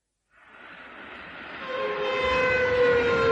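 train passing

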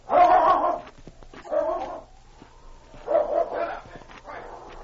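dog barking

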